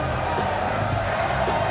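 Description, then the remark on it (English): A large crowd cheers and roars steadily for a dancing performer, a dense wash of voices and applause filling the space at a constant, loud level throughout. “Like, the crowd wasn't totally into it at the very start, but they really get behind him there.”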